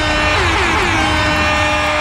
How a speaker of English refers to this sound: Yeah, y'all thought we forgot about the air horn. Easter egg! And exactly. Jobs Friday! We can't have Jobs Friday without the air horn.